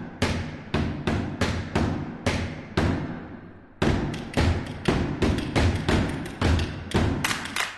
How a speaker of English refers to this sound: It's sung with sounds instead of words, but they're such cool sounds, and it's full of really interesting percussion. The singers bang bamboo poles on the floor and knock sticks together.